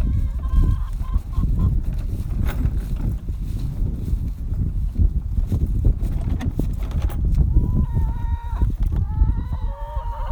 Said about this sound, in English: Making my way into what I'm going to call a field. Open gate number one. Just listen out for the chickens.